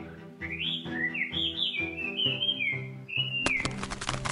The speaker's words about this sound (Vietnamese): Như chim họa mi có thể sử dụng âm thanh có tần số trung bình ở khoảng 1 kHz để tạo ra các bài hát phức tạp và thu hút sự chú ý của đồng loại.